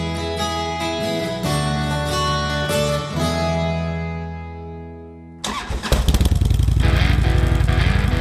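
A motorbike engine hums steadily, its tone gradually winding down, then cuts abruptly to a louder, rougher, rhythmic engine rattle near the end. No one speaks.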